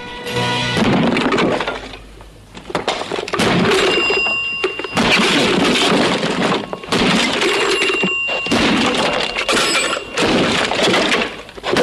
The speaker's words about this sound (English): He then walks into his office and repeatedly crashes the axe into his desk.